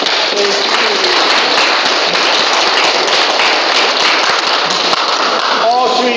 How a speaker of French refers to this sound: Et puis aussi les serveuses. Alors on peut les applaudir.